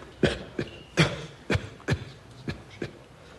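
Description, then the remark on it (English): A series of about seven harsh, raspy coughs in an uneven rhythm, each short burst moderately loud, with no talking in between. “If you could attempt to suppress your cough.”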